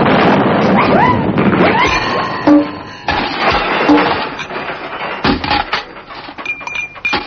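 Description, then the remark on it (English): A Christmas cracker goes off with a sharp bang, followed by a few more short pops and crackles over a dense, busy rustle with brief squeaky whistling tones. “Like make crackers go off with a bang.”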